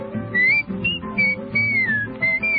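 Someone whistles a bright, merry tune in clear, sliding phrases, fairly loud, with a soft musical backing humming underneath.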